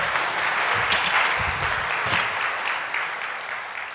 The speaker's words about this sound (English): Okay, thank you very much. You ought to applaud them for that.